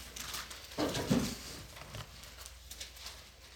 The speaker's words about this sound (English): Hearing those pages turning.